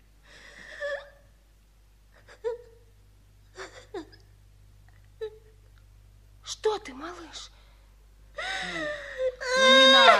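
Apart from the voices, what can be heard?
child crying and sobbing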